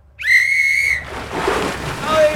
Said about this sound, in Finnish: No niin, hei! Katsokaa kaikki. Tässä on pilli. Uimaan saa mennä vasta, kun pilli soi. Hei, miltä se kuulostaa?